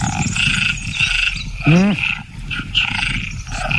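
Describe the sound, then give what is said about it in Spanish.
A dense chorus of tree frogs calls continuously, layered high-pitched trills and croaks overlapping, with one louder, deeper drawn-out call rising briefly near the middle before the chorus carries on. “Las hembras de ranas arborícolas tardan más en elegir pareja cuando oyen demasiados”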